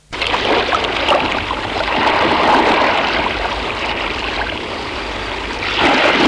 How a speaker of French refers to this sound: Le père ouvre la porte de la maison. Le vent, la mer, la nuit noire.